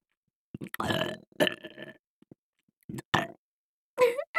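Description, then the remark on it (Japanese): A series of loud, guttural burps in several drawn-out croaky bursts separated by short pauses, with no talking. “生中もゲップサービスです。”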